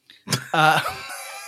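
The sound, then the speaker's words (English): A person imitates a baby hawk's squawk with a single harsh, raspy vocal screech that starts with a rough burst and trails off. It is loud and alone, with no other sounds. “Today I gave birth to a baby hawk. Seriously, respect my bird. Squawk, squawk, squawk.”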